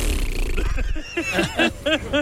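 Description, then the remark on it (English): A human voice imitates a horse nicker: a quick series of about five fluttering, pitched vocal pulses that waver up and down, following a second of low rumbling noise. “I need that horse nicker or something in there in the background, you know.”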